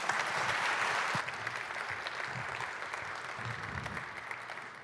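An audience in Leipzig applauds a speaker from the Open Knowledge Foundation before a talk on international taxation, a dense wash of many hands clapping that starts strong and gradually thins out over about five seconds, with faint crowd murmur underneath.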